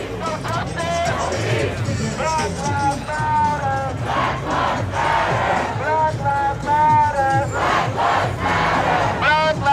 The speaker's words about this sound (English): Demonstrators have been shouting slogans like you just heard, No Justice, No Peace, and Black Lives Matter, as well as repeatedly chanting the name of George Floyd.